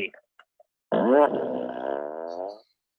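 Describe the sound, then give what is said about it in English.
A single drawn-out fart noise, a low, buzzy rasp lasting nearly two seconds, wavering in pitch at the start before fading out, preceded by a few faint clicks. “Nothing's funnier than a fart noise.”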